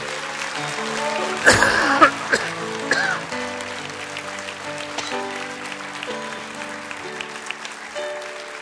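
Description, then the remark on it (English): An audience claps to the Lord to establish their church, over sustained organ-like music, with a couple of louder bursts of clapping early on before settling into a softer, steady patter under the held chords. “Let's take them and clap to the Lord and establish this church.”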